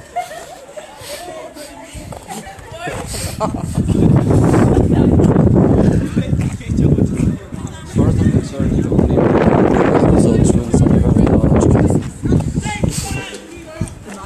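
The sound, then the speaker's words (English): Cold wind blowing outdoors where people are standing, gusting hard and rumbling against the microphone in loud, sustained waves, with muffled voices faintly underneath. “Which we're now standing just windy and coldy.”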